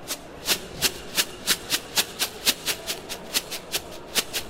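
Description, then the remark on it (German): Rice rattled back and forth in a shoebox, making steady rhythmic hissing chuffs, about three or four per second, that mimic a steam locomotive. Moderately loud, with no voices. “Also es ist einfach ein Schuhkarton, da ist Reis drin und den schüttelst du und schon klingt es wie die alte Dampflok, die sich in Bewegung setzt.”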